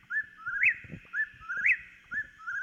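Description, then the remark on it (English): A whippoorwill calls over and over, each clear whistled phrase ending in a sharp upward sweep, repeating about once a second against faint low background rumble and no talking. “The bird's really hard to spot, since its gray, black, and brown coloring act as a camouflage, but the call is unmistakable.”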